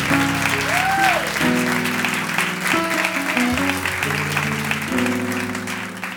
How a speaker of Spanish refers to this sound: Ay, gracias a ustedes, que son los mejores músicos del universo. Un aplauso para abajo, para este coro divino.